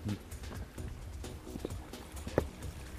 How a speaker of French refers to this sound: Et le poney qui nous suit. Et le poney qui nous suit.